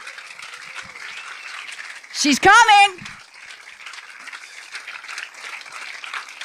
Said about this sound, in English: Round of applause for Mother Nature.